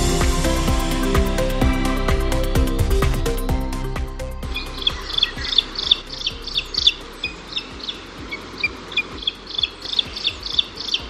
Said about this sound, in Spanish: Es su sonido más característico, ese estridente y aflautado fli, fli, fli, distingue al águila calzada, una ave rapaz migratoria de la que tenemos el lujo de contar con una pareja aquí en la Sierra de Guadarrama.